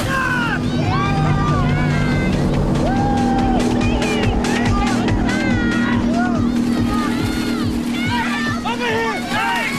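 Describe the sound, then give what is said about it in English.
A motorboat engine drones steadily as the boat speeds away, while a crowd of voices on board calls and chatters loudly over it throughout, waving to stranded swimmers. “The motorboat speeds away, those on board waving to the stranded swimmers, oblivious to their plight.”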